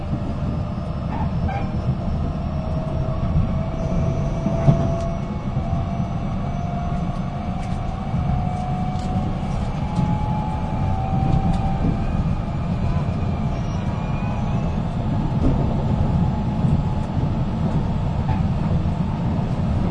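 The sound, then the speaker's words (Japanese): Steady, droning rumble inside the moving limited express Super Azusa 19 bound for Matsumoto, next stopping at Kamisuwa, with a continuous low roar of wheels and motors and a faint wavering whine rising and falling over twenty seconds. “この列車は特急スーパーあずさ19号松本行きです。”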